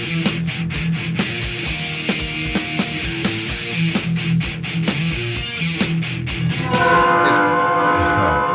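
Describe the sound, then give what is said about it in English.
A train rumbles past with a steady clatter of wheels over rail joints, then a loud, sustained train horn blares near the end. No one speaks. “The train. All aboard the Savage Express.”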